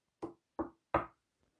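Three firm knocks on a door, evenly spaced with a short pause between each, the third slightly louder, followed by a faint trailing tap and then silence.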